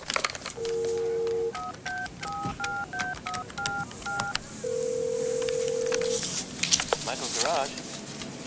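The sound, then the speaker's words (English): In an empty boardroom, a woman lifts a phone handset and a short dial tone sounds, followed by a quick run of about eight keypad beeps, then a steady ringing tone and some handling clicks. “She steps into an empty boardroom, puts down her paper cup and picks up the phone.”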